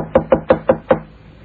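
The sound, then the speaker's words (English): Five sharp knocks on a hotel room door, Room 1234, in a quick, even rhythm, fairly loud, followed by a brief quiet. “Knock again. Maybe he's also sleeping it off.”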